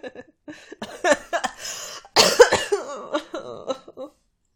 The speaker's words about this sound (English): I'll try not to cough.